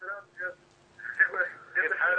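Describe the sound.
A television plays in the background over a phone line, its muffled voices arriving in short bursts and then more continuously, with a faint steady hum running underneath.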